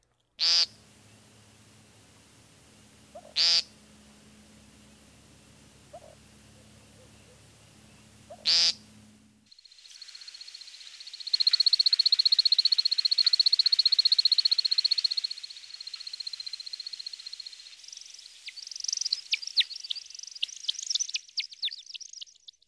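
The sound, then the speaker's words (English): Three buzzy, nasal American woodcock peents spaced a few seconds apart over a low rumble, then a long run of high twittering flight chips, partly made by wing feathers during the male's spiraling flight display, that swells loud before fading and fluttering again. “Listen to the initial peenting phrases, followed by a remarkable series of airborne chips and chirps.”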